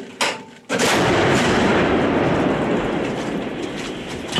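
A 1947-built K-19 anti-aircraft gun, operated by the Pomsta brigade (formerly the Luhansk border detachment), fires on ground targets: one sharp crack, a brief pause, then a loud, sustained roar of rapid heavy gunfire running unbroken to the end, with no voices.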